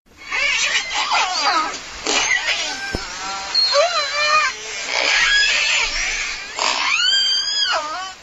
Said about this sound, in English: Okay, what's that? That, I believe, is a killer whale, and that is a specific kind of call called a pulsed call. And killer whales are a kind of whale that scientists call a toothed whale.